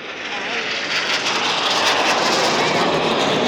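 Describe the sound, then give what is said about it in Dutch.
A loud, steady aircraft engine roar from stunt planes flying a downward loop overhead, a broad sustained rush of noise that swells slightly as they pass, with no talking. “Oh, en nu maken ze een loop naar beneden.”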